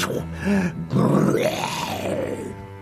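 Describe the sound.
A person imitates a lion's roar: a short guttural growl, then a longer, louder roar that swells and slowly fades, with no other speech.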